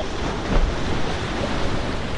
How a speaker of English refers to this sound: The water rippled with a flurry of movement.